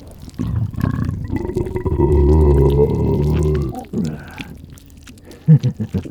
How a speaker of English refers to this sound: My belches aren't so nice when you were causing them, are they? Too bad. Give my stomach enough time, and you'll be nothing but the same slush you're swirling about in.